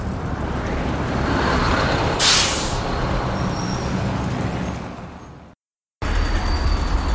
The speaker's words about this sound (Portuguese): Espera aí, deixa eu ver se é isto o comboio. É isto.